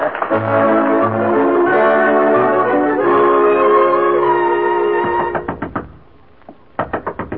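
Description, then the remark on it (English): Sustained tonal music plays for several seconds, then a quick series of sharp knocks on Miss Fawcett's dressing room door, a short pause, and another burst of rapid knocking. “No use knocking.”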